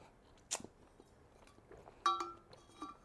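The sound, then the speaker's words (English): Quiet chewing of hard sweets, with a couple of sharp crunchy clicks and faint clinking between softer mouth noises; no one speaks. “I think I ate dead fish again.”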